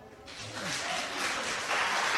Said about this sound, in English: No clapping from the peanut gallery, please. No clapping. No noises, please.